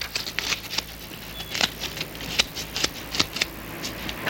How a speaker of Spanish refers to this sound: Gittis extrae un talonario de cheques y ojea las fechas de los ya usados